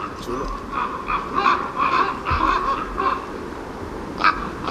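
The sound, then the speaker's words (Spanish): Some 50-60 ravens croak and call as they gather at dusk at a roost in a snow-covered pine forest at 1,900 metres. Overlapping hoarse calls repeat irregularly over a steady background hum, with a sharper call near the end. “Duermen, supongo que se callan, pero de momento están ahí como reuniendo el grupo.”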